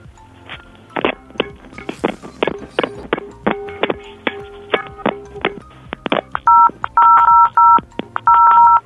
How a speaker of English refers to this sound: No, I was saying, can you, play cymbals again, but instead of using a pan as one of the cymbals? Oh, cymbals? You mean putting the pans together? Yeah, but instead of two pans together, use one pan and the phone and bang those together.